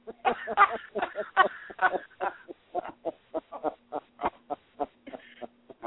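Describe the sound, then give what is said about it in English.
A duck call blown in a long run of nasal quacks, loud and drawn-out at first, then shorter, evenly spaced honks, with a faint steady hum underneath. “I guess he can blow a duck call.”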